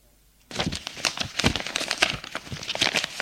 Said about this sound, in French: Stéphane compte les feuilles. Il en manque une.